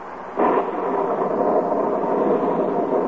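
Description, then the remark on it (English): Steady rain hisses outside a cabin on the shore of Lake Wapahokee near Wistful Vista, in duck hunting country, starting abruptly after a short moment and continuing as an even, dense wash of noise with no voices. “Inside this cabin are three mighty hunters. Three mighty disgusted hunters. Because outside the cabin, it's raining.”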